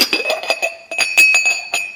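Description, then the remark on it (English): A spoon clinks repeatedly against the inside of a ceramic cup, a steady run of bright, ringing taps about every quarter second as tea is stirred, with a sustained high tone lingering underneath. “Stirring it up.”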